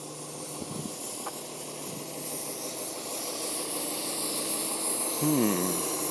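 A steady, loud hiss of pressurized air escaping from a damaged brake air line on a big bus fills the whole stretch without letup, with faint low rumbles and a brief tonal whine near the end.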